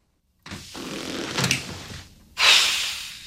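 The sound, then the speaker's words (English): A man leaves through a door: a soft rustle and a knock of the latch, then a louder scraping, squeaky swing as it opens or shuts. No one speaks. “heads off through the door.”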